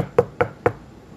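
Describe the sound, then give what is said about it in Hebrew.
Three firm knocks on a door in a quick, even rhythm, each a sharp thud with a woody low-mid tone, followed by quiet. A father knocking at the door of his son's house at night. “הוא מגיע לכתובת והוא רואה מסית, הוא רואה שיש אורות בפנים, אז הוא כולו בחשש, דופק בדלת.”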